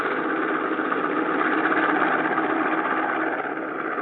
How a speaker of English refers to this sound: All members of the expedition peered out of the windows as the seaplane taxied up to a village on the riverbank.